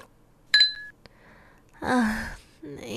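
A single bright clink of glasses of white wine touching in a toast, ringing briefly, followed after a pause by a breathy, drawn-out vocal sound.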